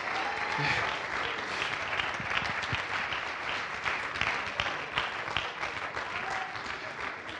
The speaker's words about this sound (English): Oh, clap your hands to the Lord right now. Clap your hands.